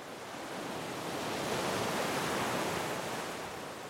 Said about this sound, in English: The sound of waves crash up on the beach